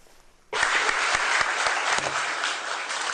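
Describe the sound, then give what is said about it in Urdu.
Applause from an audience of journalists, senior government officials and other guests at a news conference, as Syrian Foreign Minister Walid al-Muallem spoke, bursts in abruptly after a brief quiet moment and continues as a dense, steady wash of clapping at a strong, even level, with no voices heard. “صحافیوں، اعلی سطحی سرکاری افسران اور دوسرے مہمانوں پر مشتمل حاضرین نے اس وقت تالیاں بجائیں جب شامی وزیر خارجہ ولید المعلم نے جنیوا میں اقوام متحدہ کے زیر اہتمام امن کانفرنس کے بارے میں اور دہشت گردوں کو شکست دینے تک فوجی کاروائیاں جاری رکھنے کے بارے”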